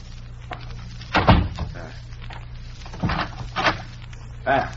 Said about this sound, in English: I will close the door.